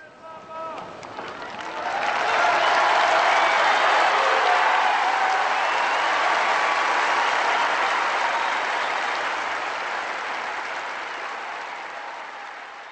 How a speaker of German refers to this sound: Mit dem Segen und diesen Jubelrufen endet die Audienz jetzt in Rom.